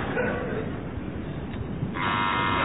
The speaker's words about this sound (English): So, fingers on buzzers. That was Barry. Okay, so the teams are now level pegging.